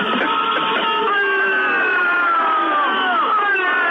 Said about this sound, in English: What's what? The booing. Oh, yeah, the booing. What's what? Where'd you get that? Electra Sound Effects Volume 4.